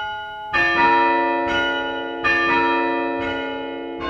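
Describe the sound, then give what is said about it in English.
Hand-rung church chime bells at St. Mark's Episcopal Church in Evanston, in the Chicago area, a chime more than 100 years old played from a first-floor chime stand, ring out in a slow, steady sequence of about five strikes, each rich tone ringing on and overlapping the next, loud and resonant with no voices present. “This is the chime at St. Mark's Episcopal Church in Evanston.”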